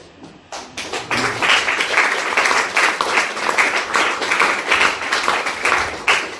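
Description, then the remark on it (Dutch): An audience breaks into sustained applause for people who contributed to a gift, many hands clapping in a dense, steady wash that starts after a few scattered claps and holds loud throughout. “Dit applaus is voor jullie bedoeld.”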